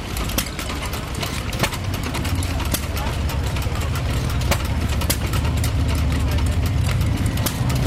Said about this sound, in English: There are a row of, I don't know, arguably a dozen steam engines that are pumping water. It's a stationary engine from Derbyshire, from Peter Fuller of Derbyshire. It's a cooled open crank, 2.5 horsepower, Amco water pump.